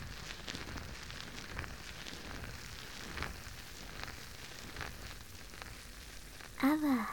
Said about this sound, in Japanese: きめ細やかなので、こうやってしっかり坊ちゃまのお耳をマッサージしても、中に泡が流れ込んでいかないですし、すごくいいですよね。しばらくは、こちらのソープを愛用することにしましょう。もちもちの泡でたっぷりお耳を包んで、